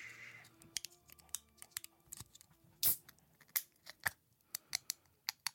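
A can of fizzy water being opened slowly: a run of sharp, irregular clicks and creaks from the tab, a short bright hiss partway through, then more scattered clicks. No one speaks.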